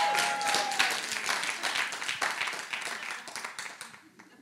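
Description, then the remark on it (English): Light, scattered golf clap from an audience in a school room in Doncaster East, Melbourne, a soft patter of many hands that holds steady for a few seconds before thinning out and fading away. “I'll take that golf clap all the way to the emotional bank.”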